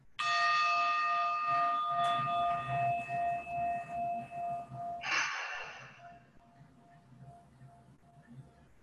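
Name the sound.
meditation gong struck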